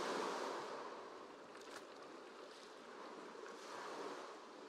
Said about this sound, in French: À chaque pas, vos pieds s'enfoncent un peu plus dans le sable humide. Et les petites vagues viennent baigner vos pieds et vos chevilles.